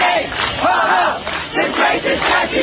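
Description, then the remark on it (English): A crowd of about 250 protesters on the University of North Carolina campus in Chapel Hill cheers and shouts together outdoors as some pull down a statue with a rope, a loud, sustained roar of many voices rising and falling in waves with rhythmic chanting mixed in. “Then the crowd started cheering as some people produced a rope and began to try to pull it down, which they did end up doing.”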